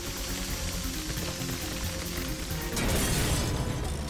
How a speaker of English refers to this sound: The windows shatter, and Cat shakes himself in the aftermath.